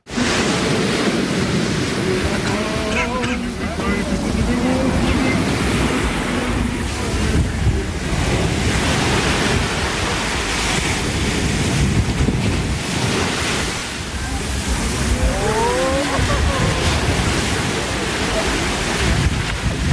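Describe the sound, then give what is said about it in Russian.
Black Sea waves wash steadily onto Langeron beach in Odesa in a continuous, rushing roar, on the feast of Theophany when the waters are blessed, mixed with gusty wind buffeting the microphone and faint calls rising briefly in the background. “В сам день праздника Святого Богоявления Господня по благословению Высокопреосвященнейшего Агафангела митрополита Одесского Измаильского воды Черного моря на пляже Ланжерон освятил Высокопреосвященнейший архиепископ Арцистский Виктор.”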